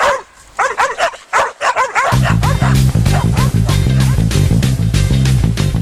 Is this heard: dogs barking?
yes